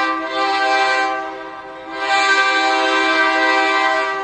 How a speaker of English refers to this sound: And when the freight trains pass by every 30 minutes, it's loud enough to literally wake the dead.